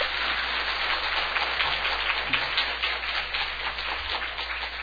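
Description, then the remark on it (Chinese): After a pastor's message, the women of a gathering applaud to bless the fathers, steadily for about five seconds, a dense, even wash of many overlapping hand claps with no voices over it. “所以做姐妹的我们鼓掌，这祝福。”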